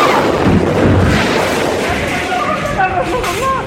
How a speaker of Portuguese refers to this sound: Uma explosão gigantesca próxima ao centro de Beirute, capital do Líbano, matou dezenas de pessoas e deixou milhares de feridos.